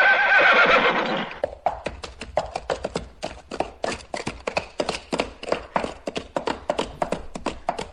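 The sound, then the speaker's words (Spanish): A horse gives a loud, drawn-out neigh, followed by a steady run of sharp hoofbeats clip-clopping at a quick, regular rhythm, clear with no talking. “Pues nada, compadre, monta tu caballo que nos vamos para el lejano oeste.”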